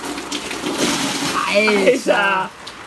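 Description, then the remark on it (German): A brief, steady gush of rainwater pours off an awning as a person empties it, splashing down, then a voice breaks in over the fading spill before it cuts off. “Ich schlupfe noch mal hier einmal kurz die Markise ab.”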